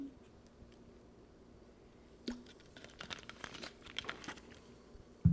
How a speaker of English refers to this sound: Anyways, I will sip this Diet Pepsi, Wild Cherry Diet Pepsi, and we're going to resume.